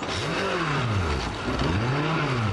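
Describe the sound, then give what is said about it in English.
A small flat-bottom boat's outboard motor drones steadily, its pitch rising and falling as the throttle shifts while the craft pulls away on choppy Lake Pontchartrain, heading out to test a stream of polluted floodwater. “He and a colleague head out to test the stream of polluted water.”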